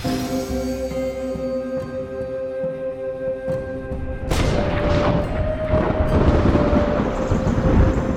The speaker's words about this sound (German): Was für ein Donner! Aber der Himmel ist blau.